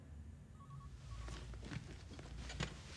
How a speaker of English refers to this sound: gets up from his seat and walks out the door.